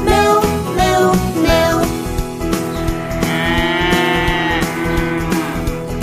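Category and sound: animal, cow mooing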